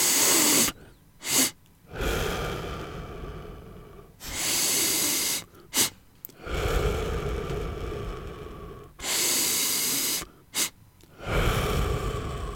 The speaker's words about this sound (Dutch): En die zei, je ademt flink in door je neus, en dan doe je er nog één achteraan, en dan langer uit door je mond.